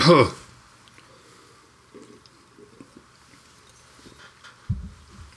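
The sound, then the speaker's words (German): Water is poured into a glass again with a soft, uneven trickle and light gurgling, quiet, bracketed by a short louder burst at the start and a brief voice near the end. “Oh, jetzt muss ich mir das Wasser neu kippen, hier ist zu viel.”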